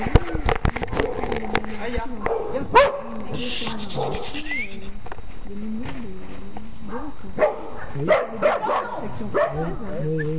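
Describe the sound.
A dog barks in short, sharp bursts, mixed with whiny yips and whimpers, while a voice talks underneath throughout.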